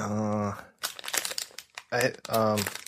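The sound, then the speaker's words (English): A second or so of dry, irregular crinkling of a red paper strip being pulled off the top of a Claxton fruitcake, sandwiched between bursts of voiced vocalizing before and after. “Oh, no. It's paper. It's paper.”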